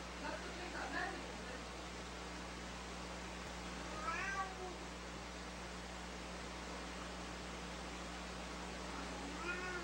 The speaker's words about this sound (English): For more, we go live to our Zurich bureau chief, world's hungriest cat.